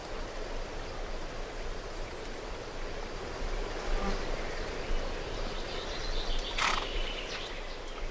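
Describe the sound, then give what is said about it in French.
Flies buzz steadily around a donkey's eyes among trees in the village of Casaba, a low continuous drone over faint outdoor background noise, with one brief higher chirp near the end. “On est dans les arbres, des enfants mangent des prunes sur une pierre tombale, un âne apparaît, on l'a entendu faire brum, il a des mouches plein les yeux”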